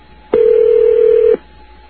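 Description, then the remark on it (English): A single steady electronic ring of an outgoing phone call, one loud tone lasting about a second over faint line hiss, with no voices. “We'll just have the phone ring and ring and ring.”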